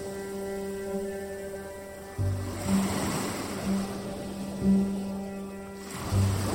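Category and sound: nature, ocean surf waves breaking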